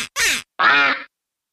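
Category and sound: animal, ducks quacking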